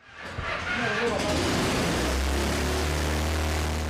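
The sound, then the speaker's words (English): A homemade helicopter, built by a professional welder, is switched on in his garage: its engine starts up with a rising rush of noise, then settles into a loud, steady roar with a deep, droning hum that holds to the end. “The engine roars as he turns the machine on in his garage.”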